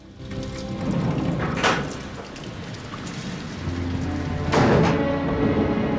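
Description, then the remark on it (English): Steady rain hisses throughout a storm with lightning outside, a low thunder rumble rolling in partway through and a couple of sharper crackling bursts. No one speaks. “and lightning flashes from outside, lighting up her slumbering face.”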